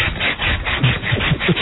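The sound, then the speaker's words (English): A loofah scrubs briskly over skin to exfoliate, in a quick, steady back-and-forth rhythm, each coarse, raspy stroke following the last with no voices. “Exfoliating. Why would you love to be that loofah, huh?”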